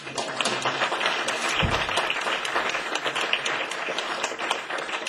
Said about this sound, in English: Maybe before we finish, just another round of applause